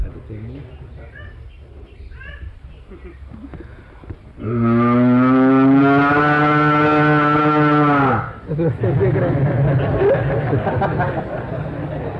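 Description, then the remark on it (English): A long, loud cow moo rings out for about four seconds, deep and harmonic, following quieter murmuring and soft bird-like chirps, with a low background bustle afterward; cows from the pastures gathered around Lord Chaitanya, mooing. “They also gathered around him and started mooing in great love, looking at his beautiful form, crying and licking his body.”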